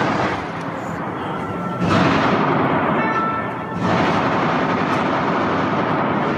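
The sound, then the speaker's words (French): A dense, unbroken barrage of rapid automatic gunfire roars for several seconds at night at the Bataclan, as terrorists return fire on intervention forces, a harsh, crackling wall of noise that surges louder twice and never lets up. “Tout de suite après, réponse des terroristes, alarme de guerre.”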